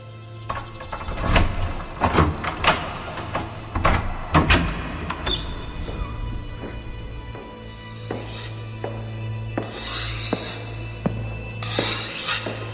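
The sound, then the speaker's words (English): A mechanical door slides open amid a series of clanks and hissing whooshes over a steady low hum, loud, with no voices. “Open the door.”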